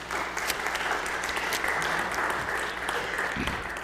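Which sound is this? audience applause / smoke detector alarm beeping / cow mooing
audience applause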